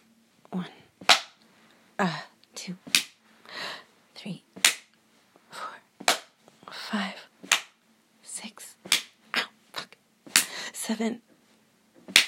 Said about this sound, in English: Okay, 10 slaps on the inside of my thigh. Each side. Yes, and just 10.